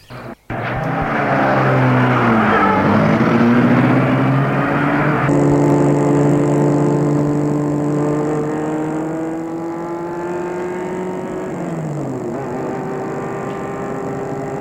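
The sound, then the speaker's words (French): A man gets into a car with a passenger and starts it: the engine catches with a sharp start, then hums loudly and steadily as the car pulls away, its pitch rising and shifting through gears while driving off, with no one talking. “Une fois dehors, il a fait entrer dans la voiture, entre lui-même, et met la voiture en route.”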